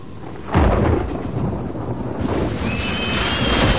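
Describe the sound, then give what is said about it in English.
Stormy weather at sea: a deep thunderous rumble breaks in after a moment, then a steady roar of wind and rushing noise carries on loudly to the end, with no voices. “Now, Killick is shaving tallow off a candle while his mate looks warily at the storm.”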